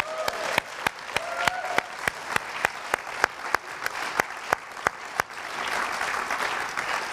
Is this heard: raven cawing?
no